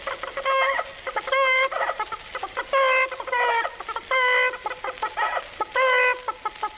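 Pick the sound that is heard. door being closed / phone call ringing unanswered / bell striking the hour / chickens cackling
chickens cackling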